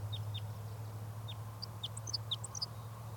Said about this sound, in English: This bird is giving a few song phrases.